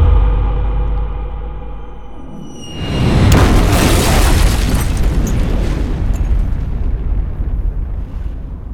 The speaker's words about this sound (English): did you just crash that helicopter with your mouth? The straight voice. I've only heard of it in lore.